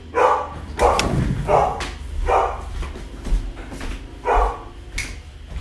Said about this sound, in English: hang on one second, my dog is barking. One second, hold that thought, don't leave me.